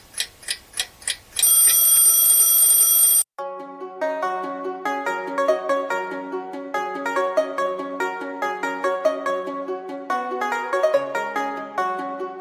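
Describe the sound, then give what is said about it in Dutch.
An alarm clock goes off: a few quick rhythmic beeps, then a loud, continuous metallic bell ring for about two seconds, followed by a bright tinkling chime melody. “In een brief van 5 januari lezen we dat zijn zus Leonie een nieuwe wekker heeft gezonden voor zijn nieuwjaar.”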